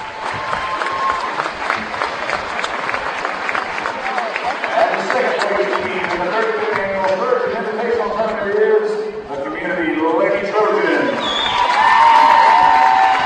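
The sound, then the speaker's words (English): A large crowd applauds steadily at a trophy presentation, dense clapping mixed with scattered cheers, whoops and overlapping voices, continuing for several seconds. “Nice round of applause for the Lady Trojans as taken the hardware's”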